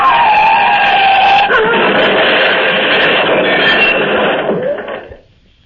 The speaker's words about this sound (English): The car is crushed against one of the cylindrical bridge supports, rammed against it head on. And my lady and I are jammed inside, cut and hurt.